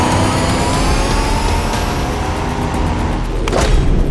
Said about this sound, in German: Sie sprangen in ihre Wagen und rasten hinterher.